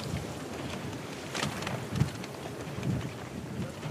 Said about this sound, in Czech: naši práci výrazně stěžují, jak možná slyšíte, naši práci výrazně stěžují velké vlny, které se tady na Lipně vlivem větru dělají, takže to ještě vypadá na dobrodružnou plavbu.